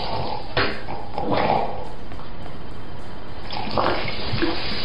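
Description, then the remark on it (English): Coke Zero soda being poured into a man's butt in a steady, noisy stream, with splashy gurgles and sloshing bursts over about five seconds, fairly loud, no voices. “He's pouring the soda in his butt.”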